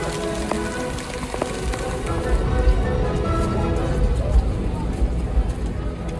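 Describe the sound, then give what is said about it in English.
Heavy rain pours steadily onto hard surfaces at Jazz Fest, a dense, continuous hiss and patter that stays loud throughout, with faint indistinct voices somewhere underneath. “It is raining really hard, as you can see.”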